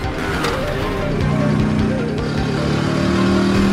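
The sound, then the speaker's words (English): A car and a scooter rev hard together as the car chases the scooter, their engines roaring steadily and loudly, with a whining pitch that climbs as they accelerate. No voices. “The scooter turns down an alley past a row of old cars, and Bradley follows close behind.”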